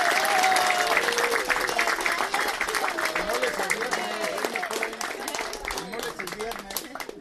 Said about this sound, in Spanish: así que de todo corazón muchas felicidades y vamos a darles un aplauso de 55 años.